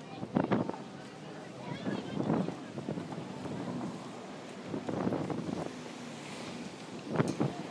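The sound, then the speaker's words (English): A boat out on open water, with a steady rushing wash and wind buffeting the microphone, broken by a few louder slaps and thumps as it hits waves. “Oh, it's a boat, not wave.”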